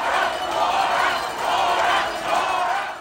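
A large crowd at a debate at the state fair in Hutchinson, Kansas, cheers and shouts as Democratic Governor Laura Kelly riles them up, a dense, continuous roar that swells and dips in three loud waves, with no single voice standing out.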